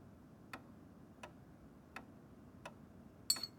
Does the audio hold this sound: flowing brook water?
no